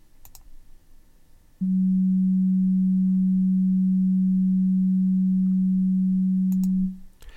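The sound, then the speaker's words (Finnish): A steady low 193 hertz sine-wave test tone hums at a single pitch for about five seconds, loud and unwavering, like a ship's foghorn drone, with faint clicks before and after it. “193 hertsiä eli 193 värähdystä sekunnissa kuulostaa täältä.”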